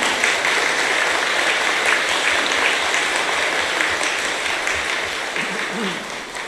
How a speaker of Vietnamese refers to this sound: Xin cho một tràng vỗ tay thật lớn để tán dương. Hãy tán dương thêm một lần nữa, thêm một lần nữa.